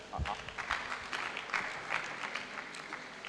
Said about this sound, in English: Okay. Let's clap for her. Wow.